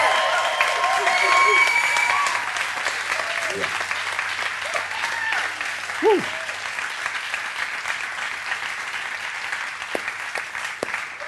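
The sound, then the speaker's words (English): A large crowd in the building claps and cheers loudly, congratulating someone on being cancer-free, with whoops and a few whistles rising over the sustained applause, which stays steady throughout and begins to thin slightly toward the end. “I'm going to need some cheers and some whistles and some claps and some whoops, some hollers that we are so thankful that you are cancer-free.”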